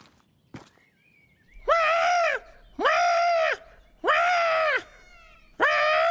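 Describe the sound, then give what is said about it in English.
A voice imitates a harsh phoenix call, made to lure a phoenix down, with four loud, drawn-out, buzzy cries in an even rhythm, each rising then falling slightly. A sharp click and a faint thin whistle come first. “I need you to do a phoenix call.”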